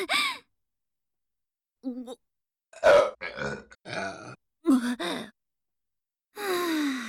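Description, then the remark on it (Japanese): A series of loud burps from a woman, several croaky belches in quick succession with short pauses between them, followed by a longer breathy exhale at the end. “あ、また出るかも。ゲップ出る。”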